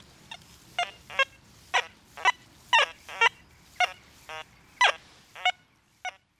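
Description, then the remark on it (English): Keith Westcott's metal detector sounds a run of about a dozen short, buzzy electronic beeps at irregular intervals, their tones shifting slightly, over a faint low rumble with no voices. “Keith Westcott and his metal detector. Well, Martin, I can hear your love of radio, of audio from that. All those lovingly recorded beeps, I've never quite heard them.”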